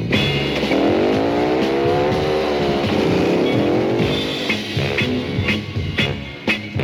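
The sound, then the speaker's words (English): A motorcycle engine revs loudly, its pitch swooping up and down through several throttle bursts before it roars off, with no talking. “So would you girls mind stepping off my motorcycle?”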